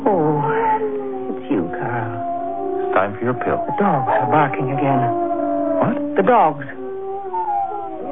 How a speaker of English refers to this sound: I asked you about the dogs. They're barking.